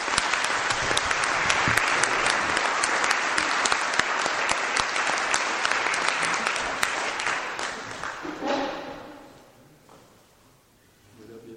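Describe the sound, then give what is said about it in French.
An audience applauds at a town council election as sashes are handed to the elected list, with sustained, dense clapping for about eight seconds, then the applause thins and fades into quieter scattered claps and murmurs. “Donc par conséquent, je vais pouvoir, sous vos applaudissements, déjà remettre les écharpes.”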